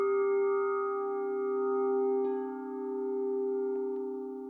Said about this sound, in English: Oh, I think the bell tolls for everybody. All of us. There's no escaping the bells.